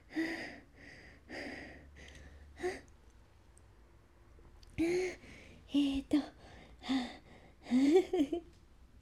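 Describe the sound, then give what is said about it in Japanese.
Heavy, rapid panting: a quick run of loud breaths, a brief pause, then ragged, voiced gasps as someone struggles to catch their breath after exertion. “なかなか息切れは収まりませんが、最後まで、お付き合いいただいてどうもありがとうございます。”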